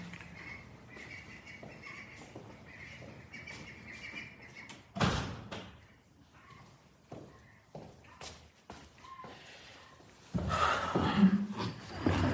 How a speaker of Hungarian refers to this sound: Kacsák kicsit túl hangosak, úgyhogy be kell zárni az ajtót egy pillanat.